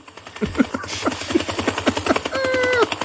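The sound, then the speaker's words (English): A helicopter's rotor chops in a fast, steady thudding rhythm, loud, with a rising mechanical whine layered over the beat near the end. “what does a helicopter have to do with Melvin Ray?”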